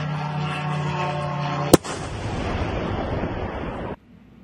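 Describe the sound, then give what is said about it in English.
A Ukrainian drone's steady droning engine hum gives way to a single sharp bang, followed by a loud, rumbling burst of gunfire and noise as the drone is shot down, cutting off abruptly. No one speaks. “Video shows a Ukrainian drone shot down.”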